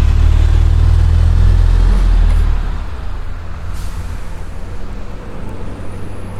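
bus idling

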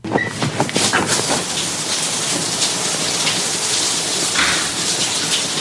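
shower water running

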